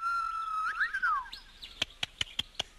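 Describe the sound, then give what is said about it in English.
A TV kangaroo clicking sound effect from the show Skippy: a warbling, bird-like whistled trill fades into five sharp, dry clicks in a quick, slightly uneven rhythm, with no voices. “And he'd go, he would click.”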